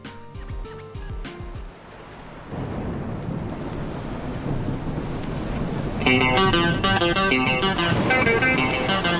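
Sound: rain falling with thunder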